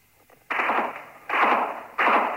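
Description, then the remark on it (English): Three heavy bursts of gunfire in quick succession during the Falklands War, at night under moonlight, each cracking in sharply and trailing off into a rough, muffled rumble, with no voices. “Again, more gunfire.”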